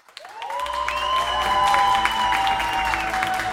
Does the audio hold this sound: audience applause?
yes